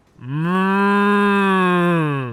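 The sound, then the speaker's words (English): A cow being milked lets out one long, steady moo lasting about two seconds, loud, with a low droning tone that holds even before tapering off. No one speaks. “I don't like that it makes noises when I do it.”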